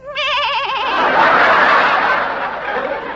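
A small young goat gives a short, quavering bleat with a trembling, wavering pitch, followed by a breathy, rasping tail that fades out. It is fairly loud, with no talking.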